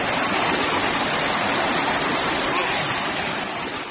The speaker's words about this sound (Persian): صدای ریزش آب و کار نیروگاه خودساختی چارکوه را می شنیدید.